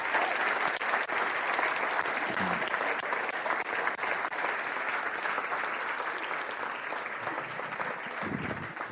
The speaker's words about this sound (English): So sit tight. Let's give a big round of applause and a big welcome